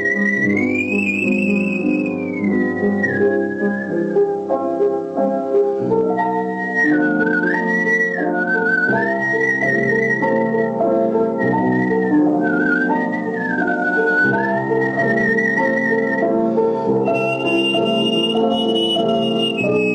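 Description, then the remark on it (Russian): A man performs artistic whistling, whistling a flowing melody as if singing, with clear, sustained high notes that glide between pitches, carried loudly and continuously over a full instrumental accompaniment. “Я как бы пел свистя.”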